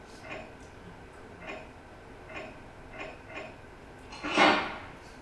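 Soft, evenly spaced ticks as the keys in a phone game are tapped and wound, five light clicks at a steady pace, ending with one louder, brighter rattling burst.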